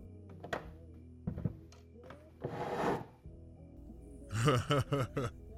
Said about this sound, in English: Why don't you pull up that other chair there?